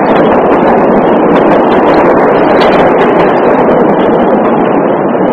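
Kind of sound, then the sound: vehicle, train passing by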